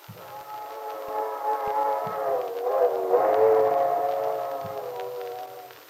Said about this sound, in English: There it goes. Yes. You know, listening to that old train whistle gives me the feeling you get sitting inside by a fire in the winter when it's snowing outside. Makes what you have seem all the more precious.